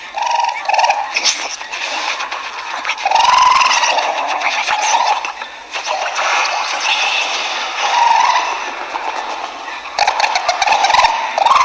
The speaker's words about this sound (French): L'aigle va t'arracher juste le bout du téton. Alors, voici un aigle qui vient. Ne fuis pas, ne fuis pas.